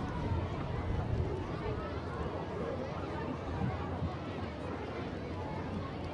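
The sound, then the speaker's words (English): A steady wash of crowd noise from a large camp-day crowd at a Salem Sox baseball game, many voices blending into an even murmur of chatter with no single speaker standing out, holding constant throughout. “We mentioned, or Gio mentioned, that today is camp day and a really good crowd on hand, easily the best crowd of the season so far for the Salem Sox.”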